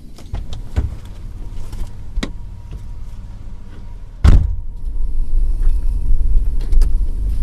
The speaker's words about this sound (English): This is this piece of machinery right here is called a roller chopper. And the roller chopper is what we use to restore some of our scrubby flatwoods and pine flatwoods. And what it does is it chops up the palmettos and reduces the fuel